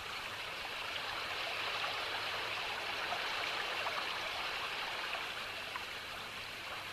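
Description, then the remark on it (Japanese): Fast-flowing river water rushes steadily, a dense, unbroken hiss and burble with no voices or other sounds over it. “途方もなく流れが速くて、とっても流れないはずなど限られそうもなかったと。”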